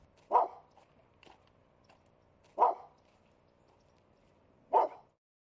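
A small, lame, snaggletoothed Shih Tzu dog named Molly barks three times, sharp single yaps spaced roughly two seconds apart, clear, with faint softer sounds in between and no talking.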